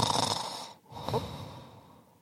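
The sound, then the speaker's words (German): A voice imitates an exaggerated cartoon snore: a long, rasping inhale, a brief pause, then a breathy, whistling exhale that trails off. “so schnarchen gibt's nur in Comics, oder?”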